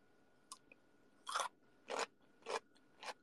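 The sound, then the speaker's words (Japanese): Crisp crunching on a cucumber: four sharp bites or chews land roughly half a second apart, preceded by a faint click, with no talking. “あんまこれポリポリ言わん。ま、待って、キュウリ、キュウリにする。”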